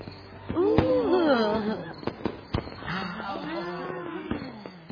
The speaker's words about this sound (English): Ooh. Hi there. Them's nice fireworks. They're okay.